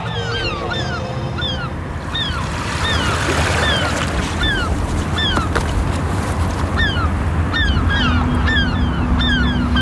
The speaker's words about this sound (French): Avec les mouettes qui tournent dans le ciel, là. On est à Cherbourg, avec en face de nous les restes des fortifications.